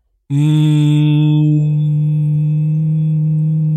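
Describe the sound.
A person hums a steady, low droning tone, imitating the Hum, a noise reported in areas around the world. It starts abruptly, holds one pitch loudly for several seconds and mellows slightly partway through, with no talking.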